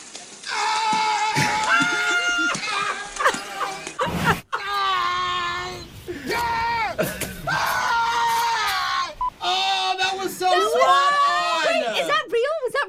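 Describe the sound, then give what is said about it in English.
Loud, wavering wails and honks from a sea lion fill the first half, then Tom Hanks closely imitates the same harsh, sliding calls, in near-continuous bursts without words. “The first half of it was the sea lion, and the second half was Tom Hanks.”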